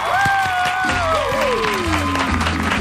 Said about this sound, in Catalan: Moments APM. Amb un fort aplaudiment a la veu de l'experiència.